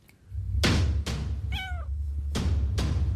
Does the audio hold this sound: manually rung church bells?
no